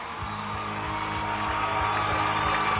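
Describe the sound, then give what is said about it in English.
An audience applauds and cheers at the opening of The Net Live show, live from the Redondo Beach home court in California, in a steady, dense wash of clapping with scattered whoops, holding at an even, fairly loud level throughout with no one speaking. “Love the applause. Never gets old.”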